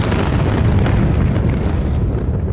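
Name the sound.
explosion boom sound effect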